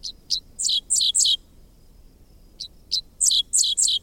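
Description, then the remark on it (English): Two clear phrases of dickcissel song from a bird on a fence line along a country road in Kansas on a summer morning: a couple of sharp introductory chips followed by a quick run of three buzzy, downslurred notes, repeated after a short pause over faint background hiss. “Half insect, half sci-fi blaster, this song belongs to a bird called the dickcissel, whose name spells out the syllables of its quirky song.”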